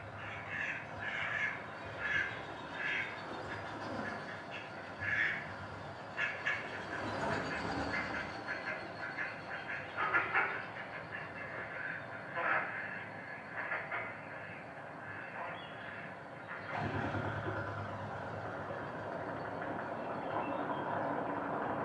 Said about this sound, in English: A duck coming in. Bunch of ducks taking off and they're going to fly by.